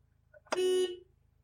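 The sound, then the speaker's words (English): A single loud car horn honk from a car on a bridge with its headlights off, a steady blaring tone lasting about half a second against a low, faint background hum. “We're going to honk once and see if anything happens.”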